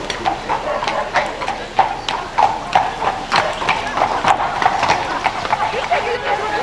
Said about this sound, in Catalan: Quan estaven jugant, el Mohamed va veure l'Usa, és a dir, el mestre, que s'acostava muntant amb el seu ruc.